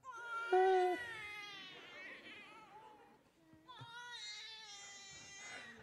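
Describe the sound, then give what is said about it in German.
A hungry baby boy wails in high, strained cries that waver in pitch, loudest at the start, then trails off briefly before a second drawn-out crying bout rises again. “Wir haben gesagt, wenn er dann schreit, dann klappt es halt nicht.”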